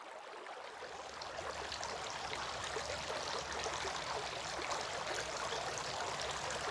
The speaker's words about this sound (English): Washing the hands.